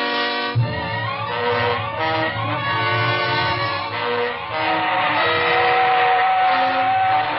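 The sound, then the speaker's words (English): A train rumbles while a loud steam whistle holds a long, steady wail over it for several seconds, the roar continuous throughout with no voices. “The train was gone, and so was that awful feeling inside.”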